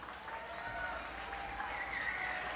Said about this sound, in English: And I just want to let you know this next band is a great Cajun band named …. And yeah, give them a big hand.